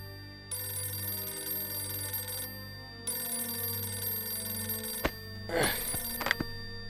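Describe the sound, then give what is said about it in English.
An old-style telephone bell rings loudly at 5:40 a.m. in two long, steady bursts with a short pause between, then a sharp clack and rustle as the handset is picked up. “But at 5:40 a.m., one phone call changed everything.”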